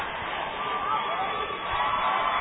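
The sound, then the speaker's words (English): A packed indoor gym crowd roars steadily during a basketball timeout, a dense, loud wall of cheering and shouting voices that holds at a constant level with no break, as cheerleaders from both sides pump up the crowd. “Both sides have their cheerleaders out, pumping up the crowd.”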